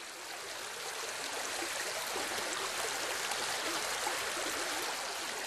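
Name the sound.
flowing river stream water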